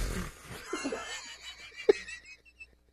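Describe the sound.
A person vocally imitates the faint, breathy farting of an old man who cuts hair and is unaware he is farting: a series of soft airy puffs and wheezes with one short pop, otherwise quiet.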